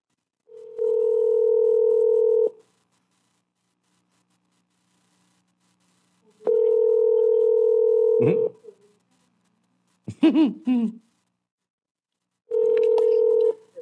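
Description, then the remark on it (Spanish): A WhatsApp call's ringback tone repeats: long, steady electronic beeps of about two seconds each, separated by several seconds of silence, with a brief warbling burst in one gap. “Déjame le marco por WhatsApp entonces.”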